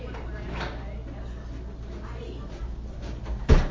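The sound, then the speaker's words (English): A classroom door is shut with a single solid thud near the end, preceded by a few seconds of quiet background noise and faint shuffling. “Okay, so I'm gonna shut the door real quick.”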